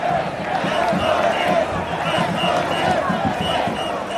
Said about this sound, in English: Down at the very tip of Manhattan Island, the parade is forming, and the crowd is already massive and fired up.